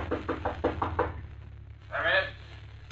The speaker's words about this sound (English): Finally, he finds room 314, the number Batman had given him at the end of the hall. He stops and knocks on the door.